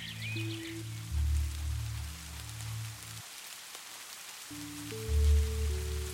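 Steady rain pattering on surfaces fills the background, a soft hiss with fine drips throughout, beneath low sustained musical drones that pause briefly midway.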